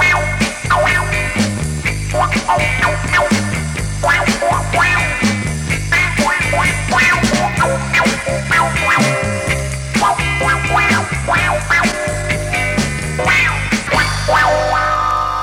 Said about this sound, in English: Now let's listen to the wah-wah pedal in action. The wah-wah pedal lets you make your guitar growl.